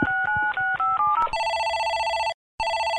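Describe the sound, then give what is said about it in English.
A quick run of telephone keypad tones beeps out a number for a cold call, then a loud, steady electronic ring tone sounds, breaks off briefly, and starts again. No voices are heard. “And when we're not listening to Spike and Rachel, we're hitting the phones hard, making cold calls”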